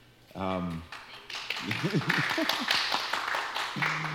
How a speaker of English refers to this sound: Congratulations. It takes a lot of courage, I think, to come to a Hare Krishna temple for the first time. So we applaud you.